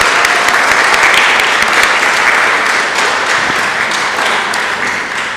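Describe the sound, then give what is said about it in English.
A crowd of kids applauds steadily for the individuals who supported their Kids in Motion summer program, a dense wash of many hands clapping at once, loud and sustained throughout before easing off slightly toward the end. “So thank you, and kids, please help me give a round of applause to those individuals that supported your program this summer.”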